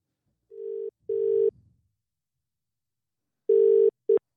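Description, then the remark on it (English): A telephone ringing out: steady, mid-pitched electronic ring tones in short bursts, two near the start and two more after a long silent pause, with no talking. “we're going to give her a buzz and see what she's up to, because she's working today, and see what she's up to and what she is doing.”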